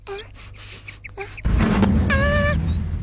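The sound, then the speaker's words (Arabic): The door of a cold-storage room at a poultry farm slams shut with a sudden, heavy low thud partway through, followed by a rumbling wash of noise. High, tonal yelping cries sound before and after the slam. “كان عليه أن يتجاوز الكلب الذي استفاق غاضبا من صوت الباب.”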